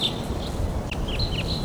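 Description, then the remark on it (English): Wild birds give a run of thin, high chirps and short down-sweeping calls, repeated irregularly over a steady low rumbling background as birds fly right over, some taking off and others coming in; no one speaks. “So recording a little later, those birds took off and some other birds are coming in.”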